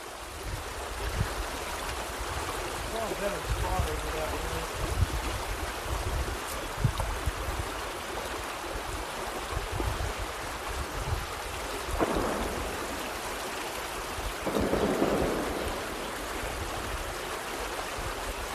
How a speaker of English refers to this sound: This is Nick's recording from the creek.